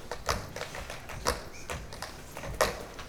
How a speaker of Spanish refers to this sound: Una chica de su clase, Madeline, bailó un zapateo.